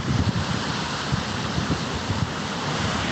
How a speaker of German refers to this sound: Und ich glaube, du hörst das Meeresrauschen. Warte mal, ich halte mal das Handy jetzt ins Meer, also ins Rauschen.